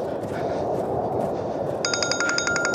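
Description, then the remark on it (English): A telephone starts ringing partway through, a bright pulsing electronic trill with repeated rapid bursts, heard over a steady loud rumbling background noise. “Damn it. Where's my phone now?”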